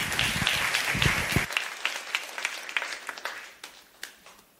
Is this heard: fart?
no